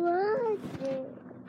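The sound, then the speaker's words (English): A small child's voice makes a drawn-out, wavering meow in imitation of a cat, then a shorter, higher little cry, fairly loud with no other talk. “Where's your cat noise?”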